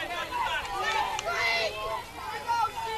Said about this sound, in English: You can hear CJ Seinflohn's name being yelled throughout the stands here.